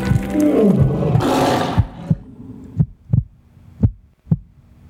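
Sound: lions roaring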